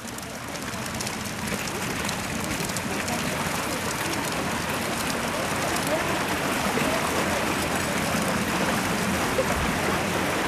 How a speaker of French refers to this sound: Nous passons sur un petit pont et nous longeons un petit ruisseau.